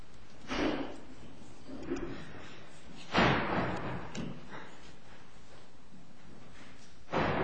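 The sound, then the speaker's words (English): A courtroom door is shut with a solid thud, followed by a few softer knocks and bumps, then another firm thump near the end. “have that door closed, please?”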